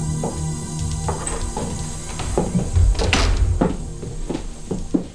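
The door of the house of the star Dilla Rourke opens with a few muffled thunks and a louder bump around the middle, followed by scattered soft knocks like footsteps as three people step inside after ringing the doorbell and getting no answer. No one speaks.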